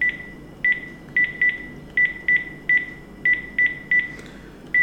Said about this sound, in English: So I'm gonna pick up my landline phone here and dial my iPhone.